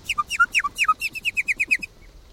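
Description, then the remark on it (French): Nightingale song: four loud, descending two-part whistles, then a quick, even run of about nine short high notes that stops abruptly, with a small toad-like call within the song; no voices. “Alors à l'intérieur, on entend un petit cri de crapaud.”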